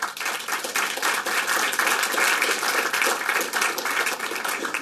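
Steady applause from an audience, a dense wash of many hands clapping at an even, fairly loud level throughout with no pauses and no voices.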